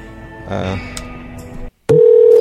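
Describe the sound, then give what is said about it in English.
Telephone dial tone and dialing to place a call: steady electronic tones and beeps over a muffled background, then a brief silence before a loud, sustained tone returns. “I think we need to give a call to Matt.”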